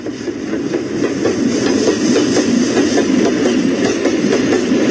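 Railway wagons clatter steadily along the tracks, a loud, continuous rumble with repeated rhythmic clicks and a hissing wash over the top, with no voices.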